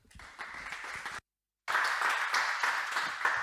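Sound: audience applause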